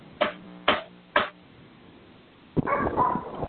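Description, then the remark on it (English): A dog barks three times in quick, evenly spaced succession, followed by a burst of muffled, indistinct noise. “I can hear the dog.”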